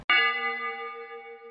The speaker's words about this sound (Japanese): いや、もう思わず天使の鐘が鳴りましたけれども